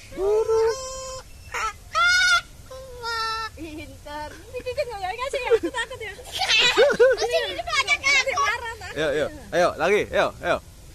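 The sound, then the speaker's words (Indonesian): A cockatoo calls with a series of loud, harsh squawks and screeches, some drawn out and some clipped, while people talk. “Enggak. Lagi. Ayo. Burung kakak tua.”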